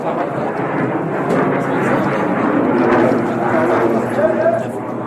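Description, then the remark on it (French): A MiG fighter jet roars low over a town, about 300 metres above the houses, a loud, steady, rumbling wash of engine noise that fills the whole clip, with indistinct voices and shouts of residents in the street mixed in beneath it. “Un MiG, un avion de chasse, arrive sur la ville, la terreur des habitants.”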